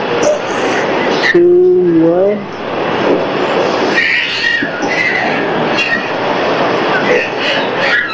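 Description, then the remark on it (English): A steady, loud rumble of a subway train running, with a brief rising tonal whine near the start and muffled voices mixed into the noise. “You're going to take the D train to 59th Street at 161st.”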